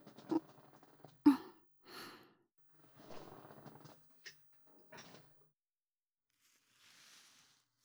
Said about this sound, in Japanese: では、また椅子の背もたれ、倒させていただきますね。